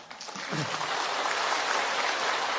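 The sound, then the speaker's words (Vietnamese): An audience at a Buddhist dharma talk claps steadily for a couple of seconds, a dense, even patter of many hands at moderate loudness with no clear rhythm and no one speaking over it. “Tôi nghe tiếng vỗ tay không đủ mạnh.”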